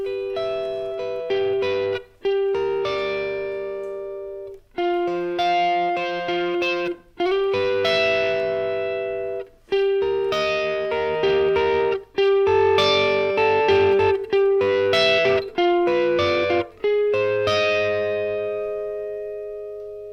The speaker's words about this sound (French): Pour le couplet, on va jouer en son clair avec le micro grave de la guitare. On va avoir un système de triade sur les trois cordes aiguës de la guitare et eh bien je vais vous jouer ce couplet au ralenti.